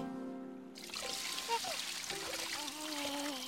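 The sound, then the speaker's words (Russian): Warm water pours steadily into a baby's bath, a continuous splashing rush that starts abruptly after a brief hum and keeps going, with faint voices murmuring underneath. “Фу, малыш, вот тепленькая водичка.”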